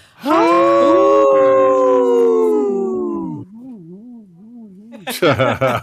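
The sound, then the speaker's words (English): People on the Native Roots Radio show I'm Awake imitate wolves with a long, sustained howl that holds steady and then wavers up and down in pitch before trailing off, followed by a burst of laughter or lively voices. “our howls have gotten better and better. They're more authentic.”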